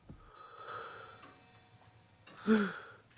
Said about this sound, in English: He leans his head back on the sofa and yawns.